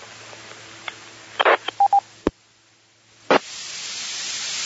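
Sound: radio repeater tone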